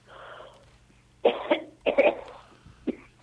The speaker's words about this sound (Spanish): Cuidado con la tos. Se ahogó mal, pobrecita.